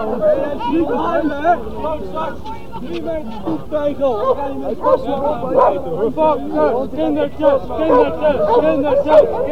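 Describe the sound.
A dog barks now and then amid a busy crowd of people chattering, the bursts of barking blending into the steady babble of voices.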